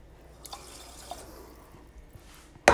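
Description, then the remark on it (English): Water trickles and drips into a pot of rice in soft, uneven splashes, ending with a brief louder burst of pouring, with no talking. “I'm not even going to try and guesstimate how much water that is or what the measurement is, but if I stick my middle finger down, when it touches the top of the rice, the water comes up to the first knuckle.”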